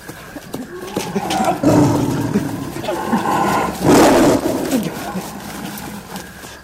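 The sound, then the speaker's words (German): A tiger roars repeatedly in loud, rumbling bursts, the strongest around the middle, with shorter growls between and a steady noisy background. “Der Tiger gab auf. Jedenfalls war er nach einiger Zeit nicht mehr zu hören.”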